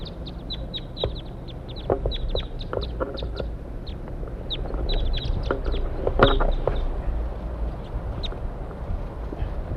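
wild birds calling

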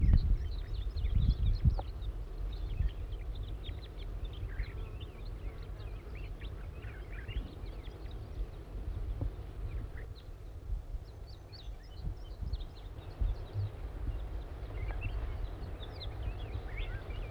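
juvenile crossbill calling

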